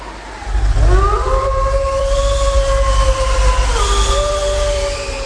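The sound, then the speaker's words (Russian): Several long, overlapping howls rise and hold steady tones, one voice shifting pitch midway, sounding like two wolves howling over a constant low rumble of wind, fairly loud and sustained throughout. “О! Слыхали? Господи, волки.”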